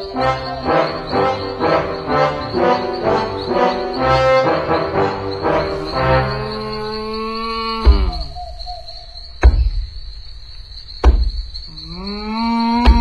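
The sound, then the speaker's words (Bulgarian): A cow moos in long, drawn-out calls, fairly loud, over a constant high-pitched insect-like whine, with a few sharp thumps between the calls. “А, крава!”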